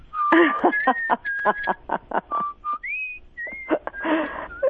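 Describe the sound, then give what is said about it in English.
A woman whistles the Happy Birthday melody, clear, its notes separated by breathy, chuckling bursts of air. “I don't know if you could hear that, listeners, but she's whistling happy birthday.”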